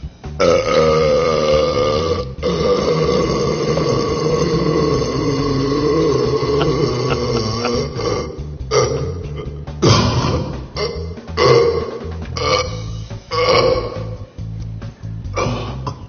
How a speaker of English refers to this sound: Ladies and gentlemen, you have your champion, …, the world burping champion.